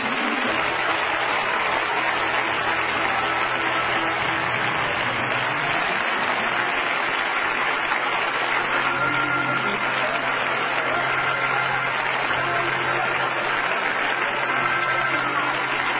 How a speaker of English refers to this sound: Let's give the Lord a clap offering right now.